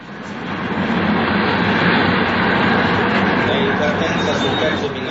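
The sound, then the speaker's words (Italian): A train rumbles steadily and loudly at a railway station where a direct train for Arezzo stopping at all stations is announced, a dense continuous roar that swells in over the first second and holds throughout, with a voice talking over it. “Mi scusi questo appuntamento alla stazione, ma sono sempre in movimento fra treno e l'altro.”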